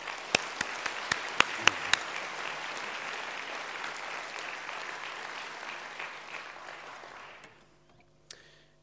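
An audience at the ECCP 2018 conference opening ceremony bursts into sustained applause for dance ensemble Krampi's performance Human Made, opening with a few sharp individual claps before settling into a dense, steady wash of clapping that gradually fades out.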